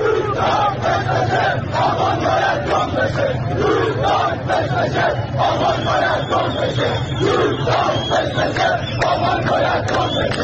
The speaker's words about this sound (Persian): با این شعارها یاد و خاطرش رو زنده نگه میدارن. اینم گوش بدین، بازم مربوط به اعتراضات دسفوله